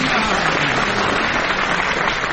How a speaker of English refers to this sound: John Amos and Frank Muir are facing Ian Wallace and Dennis Norton, and they would like you to applaud them now, please. More enthusiastic applause would be in order for our scorer, Leonie Lawson.